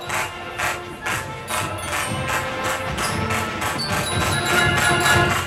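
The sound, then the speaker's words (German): Steady rhythmic clapping from a large crowd in spectator stands, accompanying marching FDJ youth formations, beating in unison about twice per second, with a dense murmur of many people underneath and no single voice standing out. “Rhythmisches Klatschen von den Tribünen begleitet sie.”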